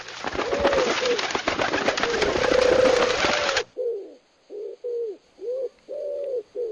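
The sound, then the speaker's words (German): Homing pigeons used by Hans-Peter Lipp in tests in Ukraine of a gravity-based navigation hypothesis coo in low, throaty warbles, first under a loud rustling wash of flapping and shuffling, then alone as a series of five or six short, rounded coos with brief pauses between. “Ob nun aber an der neuen Kanevsky-Hypothese mit der Erdanziehung tatsächlich etwas dran ist, das testete Hans-Peter Lipp vergangenen Sommer in der Ukraine mit Brieftauben.”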